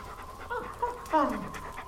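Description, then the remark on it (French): A female dog named Junon pants in quick, breathy bursts, with a brief harmonic whine-like sound mid-clip and faint human voices in the background. “Tu me reconnais, hein ? La brave chienne.”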